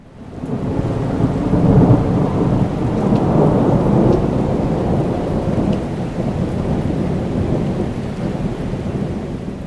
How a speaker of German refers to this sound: Einen riesigen Donner, der manchmal das ganze Haus erschüttern kann. Und der sie erschüttern kann. Es wird also ein sehr bemerkbares Ereignis sein.